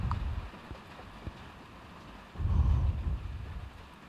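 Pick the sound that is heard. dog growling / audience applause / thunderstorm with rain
thunderstorm with rain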